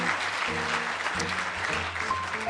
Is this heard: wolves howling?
no